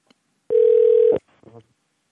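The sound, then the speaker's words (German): A single steady telephone ringing tone sounds once, loud, for under a second, as a radio presenter calls a prize winner, followed by a brief murmur of a voice. “Und jetzt muss er eben nur noch ans Telefon gehen.”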